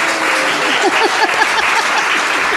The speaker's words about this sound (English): Let's get one more round of applause for our speakers today.